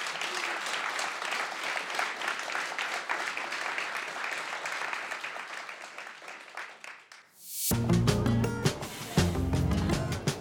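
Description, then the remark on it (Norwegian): Sustained audience applause, a dense crackle of many hands clapping for about seven seconds before it fades, followed by an abrupt burst of loud music. “Så gi dere selv en varm applaus.”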